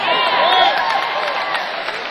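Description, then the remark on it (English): A large concert crowd at a live band's show roars with cheers, whoops and whistles, with applause mixed in, steady and loud for a couple of seconds, dense. “So, all we have to do is have unbelievably high quality output for 50 years and we can play for crowds like this all the time.”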